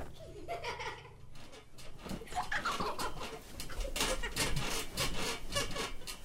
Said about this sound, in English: Mum, is that an earthquake? No, that's the twins jumping on the beds, jumping and bumping, shaking our house.